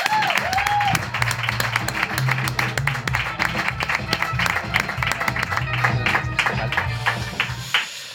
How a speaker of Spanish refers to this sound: Un gran aplauso para Javier Veiga.